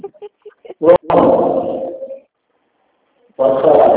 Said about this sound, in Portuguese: Cachorro começou a latir. É, sai distante dos cachorros, cachorro para lá.